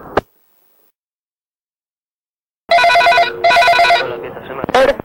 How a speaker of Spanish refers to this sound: Así que si me dejas tu nombre y tu número de teléfono, en cuanto y que suene la señal, te llamaré cuando pueda.